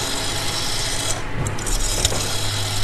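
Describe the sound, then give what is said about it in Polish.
A rotary dial on a corded landline telephone at a telephone exhibition, turning and spinning back, a steady mechanical rasping whirr with a few sharp clicks partway through, over a constant low hum and no talking. “bo my prezentujemy tutaj najstarsze centrale telefoniczne z lat 60., 70., później po kolei aparaty telefoniczne, stacjonarne, na kablu, z wykręcaniem numerów. Nie wiem, czy Państwo pamiętają ten dźwięk?”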